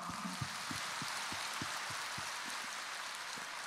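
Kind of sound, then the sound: crowd, audience applause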